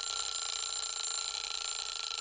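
A steady, high-pitched electronic buzzer tone rings continuously without pause, loud and unbroken, like a game timer going off at the end of a round.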